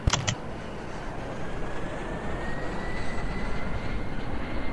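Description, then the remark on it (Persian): Two jet aircraft engines, left and right, spool up after being started with the Page Down and Page Up keys: a steady, loud roar with a thin whine that climbs gradually in pitch, following a couple of quick clicks at the start. “خب با پیج داون و پیج آپ دوتا موتور سمت چپ و راستمون رو روشن میکنیم.”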